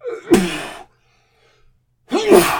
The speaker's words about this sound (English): I've got a sneeze.